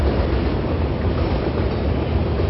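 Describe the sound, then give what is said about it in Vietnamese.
A train rumbles past on a nearby railway, a loud, steady roar of wheels on rails with heavy low-end rumble that holds constant throughout, with no voices. “Nhỏ bị ở đây gần đường xe, xe lửa nữa.”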